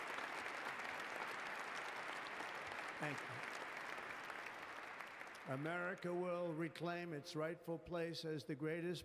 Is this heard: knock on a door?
no